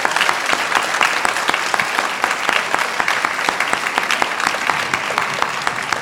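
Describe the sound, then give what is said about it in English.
Steady applause from an audience for the president after a speech, dense overlapping hand claps sustained at an even, fairly loud level for the full six seconds, with no voices standing out. “Let's have another round of applause for the president.”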